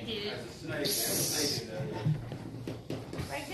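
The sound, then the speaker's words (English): A person lets out a sharp hiss lasting about a second during a church service, with a low murmur of voices and room noise around it. “When people hiss, it's usually because they don't like what's going on.”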